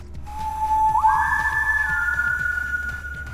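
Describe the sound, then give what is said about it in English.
A clear whistled tune of three notes, one low, one high and one in the middle: a steady lower note that slides up into a higher, sustained pitch, held for a couple of seconds over a soft background of low, rhythmic thumps. “Walking slowly with my nails scratching the unpolished boards, my whistle echoed into the forgotten space. One low note, one high, and one in the middle.”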